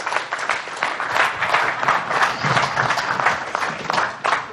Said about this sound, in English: And big round of applause for our wonderful panelists.